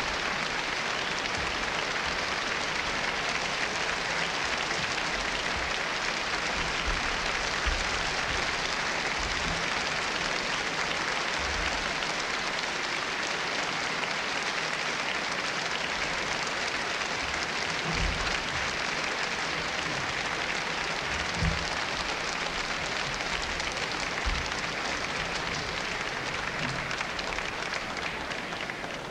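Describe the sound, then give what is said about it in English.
Steady, sustained applause from the audience at a Boston Symphony Orchestra concert after the Brahms Serenade, a dense wash of many hands clapping at an even level for about half a minute without any voices. “The applause should bring him back.”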